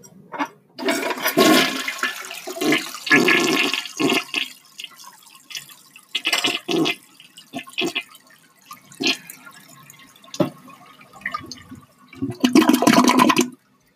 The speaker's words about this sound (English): Chances are, if you live in an urban or suburban area, when you flush your toilet, your solid and liquid waste goes into a sewer main and is carried to a wastewater treatment plant.